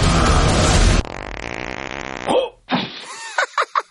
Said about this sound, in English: He farted. That wasn't a fart. That was just air leaving my butt. Which is a fart.